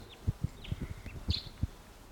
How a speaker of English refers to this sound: Wild bird. Must be perched somewhere about 150 or 200 yards away. Stop. It's a bird.